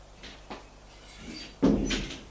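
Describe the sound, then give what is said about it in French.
An apartment door opens with a couple of light clicks and creaks, then shuts with a louder, heavier thud. No one speaks. “Il ouvre éclair.”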